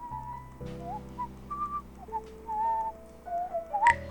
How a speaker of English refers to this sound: I hear the whistle now. That's gotta be Carl.